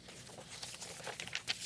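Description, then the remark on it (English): Soft crinkling and rustling of a white sheet of paper being taken out and handled, with a few sharper crackles near the end and no voices. “Take out this white piece of paper here.”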